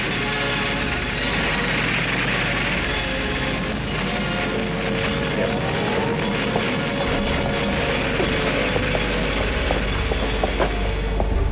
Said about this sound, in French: Le maréchal du Reich Hermann Göring dirige personnellement de la côte de la Manche les attaques de son aviation. Sans répit, les avions allemands s'envolent vers l'Angleterre. Ils bombardent nuit et jour les buts militaires de la capitale anglaise.